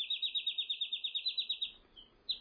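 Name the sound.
european robin chirping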